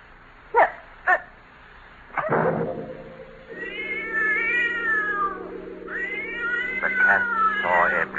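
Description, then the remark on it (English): Two sharp knocks, then a cat yowls loudly in long, drawn-out, wavering cries that rise and fall, continuing for several seconds over a low sustained drone. “The cat saw me take her body to the tomb I'd made in the wall.”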